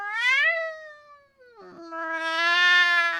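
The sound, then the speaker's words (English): A cat meows twice loudly: a short rising-then-falling call, a brief pause, then a longer, drawn-out yowling meow that holds steady to the end. “Oh, love, kitty cat.”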